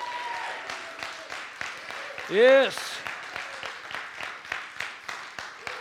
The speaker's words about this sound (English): Let's give God a hand clap of praise today.